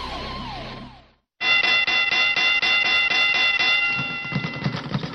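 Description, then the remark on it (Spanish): A boxing bell rings in the Radio Martí studios in a rapid, steady burst of repeated metallic clangs with a bright, sustained ringing tone, loud and continuous for several seconds after a brief musical sting and a short silence. “Bueno, regresamos aquí a los estudios de Radio Martí con la campana del boxeo.”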